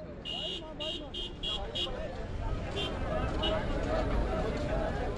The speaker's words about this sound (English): Migrant workers fight to get on one of the few public buses to take them back to their labor camp.